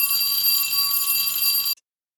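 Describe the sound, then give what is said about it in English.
A midway bell rings continuously with a bright, metallic shimmer for under two seconds, then stops abruptly, leaving silence. It is fairly loud, with no voices. “And there's the midway bell.”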